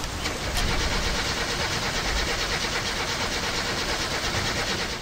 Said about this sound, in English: Once the camshaft was aligned, and the engine thrown back in the car, it was time to start her up again.